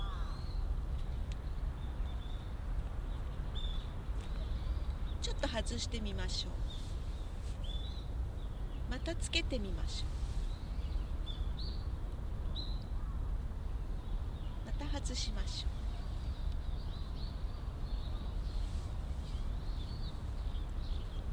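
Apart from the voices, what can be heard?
birds calling outdoors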